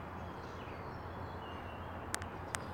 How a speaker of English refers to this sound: As I stifle it, you can listen to the birds